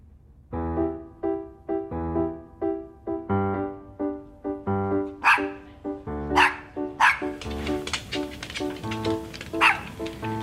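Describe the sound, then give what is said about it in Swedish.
A dog barks repeatedly at a steady pace, about a dozen loud barks, with some sharper, higher yelps mixed in toward the end. No one speaks. “Jag kanske ska berätta att jag inte har någon hund.”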